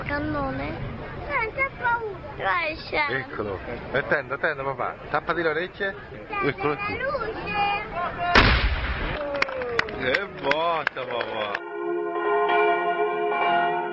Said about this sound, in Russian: К полудню мы торопимся оказаться на холме Джаникова, чтобы услышать ежедневный выстрел пушки. Все в нетерпении.